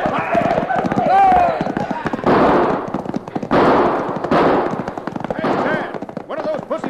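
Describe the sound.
Pistol gunfire in a shootout with cattle rustlers crackles in rapid, overlapping volleys of sharp loud shots, with indistinct shouting voices mixed in beneath the burst of firing.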